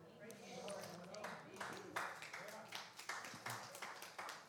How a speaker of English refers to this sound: Brother Baptist, Sister Baptist, it's okay to clap in church. Hallelujah. It's okay to praise God.